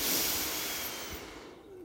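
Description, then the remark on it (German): A single long, airy breath drawn in, a steady hiss that slowly fades over about two seconds, with no talking. “Wir atmen ein,”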